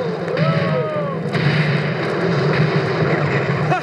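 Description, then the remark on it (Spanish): Naval cannon fire from the battle on 19 August between the American frigate Constitution and the British warship Guerrier, southeast of Boston, booms through a dense, continuous battle din, with a couple of sharp blasts standing out over the roar and some thin whistling tones rising and falling. “¡Los alcanzamos con nuestros disparos!”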